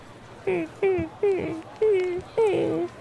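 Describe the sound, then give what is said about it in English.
Five squeaky, whimpering tones repeat at a steady walking rhythm, like boots creaking with each step and sounding eerily like a hurt dog. The squeals are fairly loud, with no talking. “Oh yeah, it's like a hurt dog. Yeah, and it happens the whole time you wear them.”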